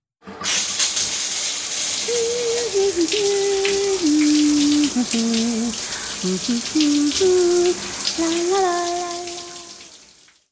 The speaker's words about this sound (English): She takes a shower.